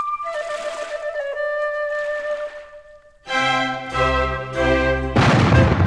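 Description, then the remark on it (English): A few heavy cannon booms, fired as a royal salute on the Grand Canal in Venice, go off in quick succession, loud, layered over sustained brassy, ringing tones, with the final blast the broadest and loudest. “Listen! Cannons on the Grand Canal! It's a royal salute!”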